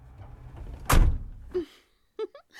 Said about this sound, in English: Let's close the doors.